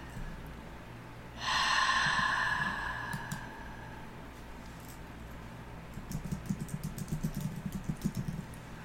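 A single deep breath: a loud, airy inhale that swells and fades over a couple of seconds, then a quieter, slower exhale with a faint fluttering texture. No one speaks.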